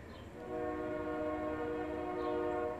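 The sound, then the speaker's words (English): A voice imitates a train whistle with one long, steady, loud blast lasting a couple of seconds, alone with no talking over it. “And then I sound like a train.”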